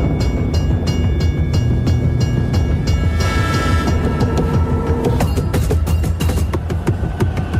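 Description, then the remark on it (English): A train rumbles steadily past, its heavy low roar joined by repeated clicking clacks of wheels over rail joints, loud throughout with no voices, in a Lincoln Navigator commercial where McConaughey taps a rhythm on the steering wheel as the train passes. “In a Lincoln Navigator commercial, McConaughey taps out a rhythm on the steering wheel while a train passes by.”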